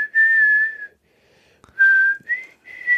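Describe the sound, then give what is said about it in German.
Someone whistles a tune from Peter and the Wolf alone: one long, steady, clear note, a short pause, then three brief notes with the last ones slightly higher in pitch. “Peter und der Wolf. Warte, ich versuch's gerade.”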